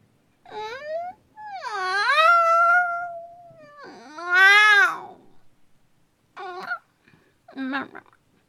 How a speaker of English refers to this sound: What? Haven't you seen a cat girl yawn before?